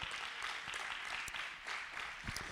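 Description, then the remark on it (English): Audience applause for nurses and teachers fills the whole stretch, a dense, steady patter of many hands clapping at an even, moderately loud level with a few sharper individual claps standing out. “We applaud you for a job well done that you do.”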